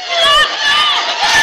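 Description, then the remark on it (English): A large crowd of thousands roars and cheers at a rally in Cedar Rapids, in a steady, loud wash of many voices, with shouts rising and falling over about a second and a half. “The place is packed with thousands of people trying to get in.”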